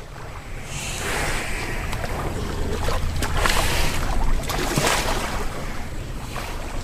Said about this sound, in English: It was there he came upon a herd of 24 water buffalo. They were bathing in the canal. That's what you heard. The water buffalo were heavy breathers. Splish-splashing is the sound of their ears and horns as they shoo away flies.